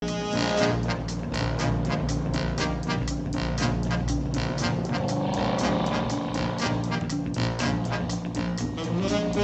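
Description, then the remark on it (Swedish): A car engine runs loud and continuous throughout, a dense throaty rumble with rapid pulsing as Steve McQueen drives the car in a clip from the film Bullitt. No one speaks. “Och det är egentligen bara att Steve McQueen ser cool ut, kör en cool bil och så är det cool musik.”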